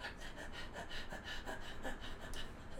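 Rapid, rhythmic breathing into a paper sack during a musical segment, each breath a hollow, rustling puff repeating steadily with no talking over it.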